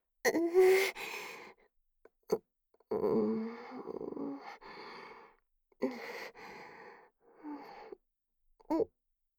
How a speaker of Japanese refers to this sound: こんな感じでいいの？そんなクンクン音出して嗅がないでよ。